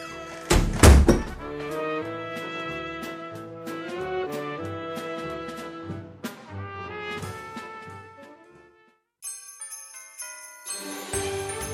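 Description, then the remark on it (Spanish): A door shuts with one heavy thud right at the start, and a bright, tinkling piece of music plays on afterward, with no voices. “Cierra la puerta.”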